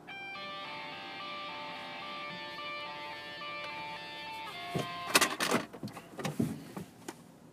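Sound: door closing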